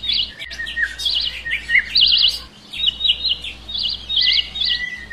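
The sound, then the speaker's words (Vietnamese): A bird sings a bright, melodious song of rapid warbling trills and whistled phrases, repeating continuously over faint background hum, with no talking. “Ôi, con chim đẹp quá, lại còn hót hay nữa chứ.”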